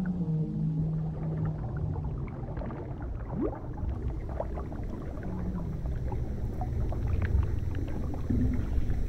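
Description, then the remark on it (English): A giant whale with its mouth open sucks in water: low moans and a quick rising sweep echo over a dense, steady rumble of churning water, with scattered clicks throughout. No one speaks. “The whale draws her in.”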